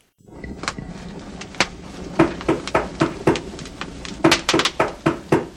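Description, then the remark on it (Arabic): Hard, loud knocking on a house door at night in repeated bursts: a few scattered raps, then a steadier run, and finally a quick flurry of heavy thuds, with no voices. “لكن فجأة سمع ديكو أحدا يطرق الباب. كان يطرق الباب بقوة.”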